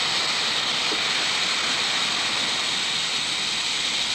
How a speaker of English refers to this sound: I'll just inflate the balloon.